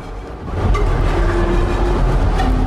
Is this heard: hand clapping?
no